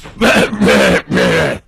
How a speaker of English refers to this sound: It's a throat clearing